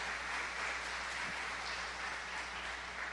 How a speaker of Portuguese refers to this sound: Glória a Deus. Pode aplaudir. Glória a Jesus.